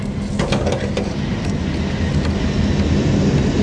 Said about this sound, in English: Oh, the car driving here. This way. Slow down.